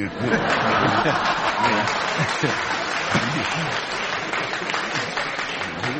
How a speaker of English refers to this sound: They're female hands clapping, aren't they?